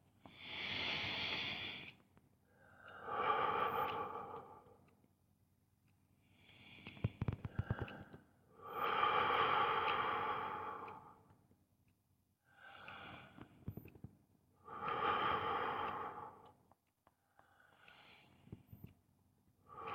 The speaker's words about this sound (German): Und wenn ich das ganz bewusst mache, ist es vielleicht eine Hilfe, wenn ich mit der Nase einatme und mit dem Mund ausatme. Jeden einzelnen Atemzug tief atmen.